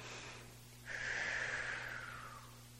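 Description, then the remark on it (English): Deep breathing in and out through the nose: a soft airy draw, then a long, steady nasal exhale that slowly fades. No one speaks, and a faint low hum sits underneath. “So those nice, long, deep breaths. Inhaling in through the nose, out through the nose, or in through the nose and out through pursed lips.”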